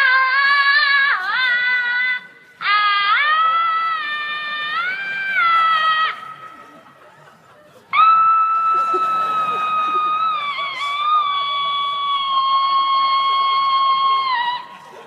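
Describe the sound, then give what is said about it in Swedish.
A voice imitates how a woman screams, with three long, loud, high-pitched wails, each sustained for several seconds with wavering pitch bends. “Och skriker, då skriker hon så här.”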